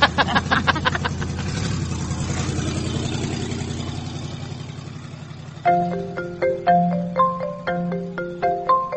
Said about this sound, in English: Muffler's got a couple more holes in it. You ever gonna get it fixed?